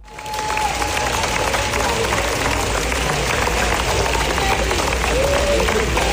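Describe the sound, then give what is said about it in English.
Thunderous 15-minute standing ovation from a large crowd for Dwayne The Rock Johnson's film The Smashing Machine: dense, steady clapping that holds at full loudness for the whole stretch, with faint crowd voices and a brief whistle mixed in. “The applause went on so long, I kid you not, that Dwayne The Rock Johnson was crying.”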